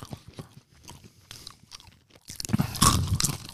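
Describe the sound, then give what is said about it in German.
Someone crunches on pretzel sticks: a couple of seconds of quiet, scattered crackly bites, then a loud, dense burst of crisp crunching and chewing. No one speaks. “Ich liebe ja Salzstangen und Cola, ne?”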